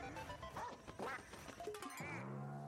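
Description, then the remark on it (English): Several nasal, buzzy duck quacks from a Nintendo video game, loud, tumbling out in quick succession before ending on a longer, falling electronic squawk. “It's the bird. What? It's Nintendo bird.”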